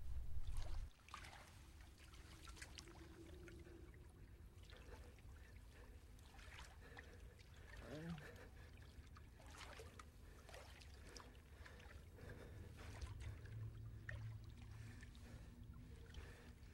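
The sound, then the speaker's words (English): Slow, steady sloshing steps through shallow water at the bottom of a cave, each stride a soft splash repeating about once a second, with a faint watery murmur in between. “He gingerly steps into the water at the bottom of the cave and slowly walks away from the beast.”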